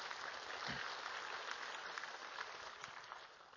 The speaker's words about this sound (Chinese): 如果你相信的话，你拍手赞美神，哈利路亚。